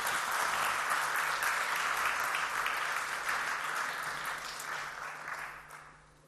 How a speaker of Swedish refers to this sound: Exakt. Fantastiskt. Ge dem en stor applåd. Tack ska ni ha.